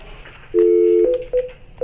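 A steady telephone tone gives way to a few quick keypad dialing beeps, each a short electronic chirp, clear with no one talking, as a doctor is phoned into an open board session.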